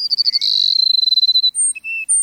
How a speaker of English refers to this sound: The sun rising over a South Texas grassland finds a flock of sparrows, like these Cassin sparrows we're hearing, perching atop a mesquite bush. They're awaiting the sun's first warming rays.